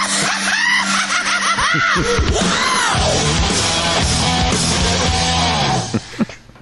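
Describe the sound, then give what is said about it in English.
A loud, sustained scream sound effect played from a soundboard, with wavering, arching pitch sweeps over a dense noisy backdrop, lasting several seconds before cutting off abruptly. “Pay your screams. We have our guest out soundboarding you”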